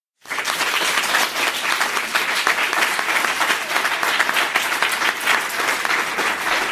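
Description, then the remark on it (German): A room full of people in a live audience bursts into sustained applause when asked who is brave, dense overlapping clapping that starts abruptly and holds steady at full strength for several seconds, with no talking over it. “ich sitze hier gerade vor einem Publikum, es ist eine Live-Podcast-Aufnahme, möchte ich wissen, wer im Raum ist mutig? Bitte einmal klatschen.”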